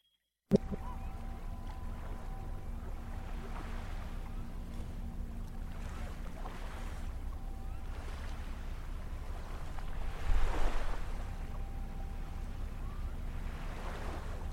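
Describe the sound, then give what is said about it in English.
A steady low mechanical hum from a ship in the near distance in a harbour drones continuously over lapping water and light wind, with soft washes of sound swelling now and then; no voices. “Yesterday, on the harbour, up on a half wall, looking out into the dark water, there is a ship in the near distance. You can hear its mechanical hum, but you can't tell if it's moving in or backing out of the harbour.”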